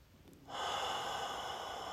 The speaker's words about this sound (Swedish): Testa att andas lite extra djupt.